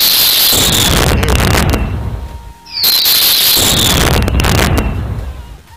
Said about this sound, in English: Can I get some fireworks in here for him?